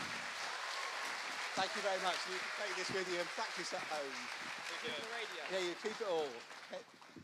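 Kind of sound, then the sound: crowd, audience round of applause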